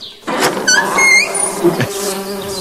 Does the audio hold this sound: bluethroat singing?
no